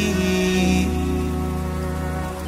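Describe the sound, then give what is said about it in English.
Steady rain falls in an even, continuous wash, blended with sustained low droning tones that hold throughout, with no voices present. “Let the rain come down and heal you with this energy.”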